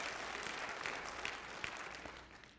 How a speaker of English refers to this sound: You know, I just want to let you know, as pastor of the church, it is absolutely appropriate to cut loose and applaud whenever you want to, all right? So I just don't want you to be intimidated by that.